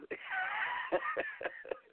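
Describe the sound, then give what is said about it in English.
A cat, Stir Fry, meows in a long, wavering, high-pitched cry, broken by a few short soft knocks or thumps underneath. “Stir Fry's here, too.”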